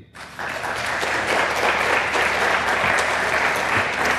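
Steady applause from an audience starts abruptly after a brief pause and carries on at an even, loud level. It's a dense wash of many hands clapping with no voices standing out.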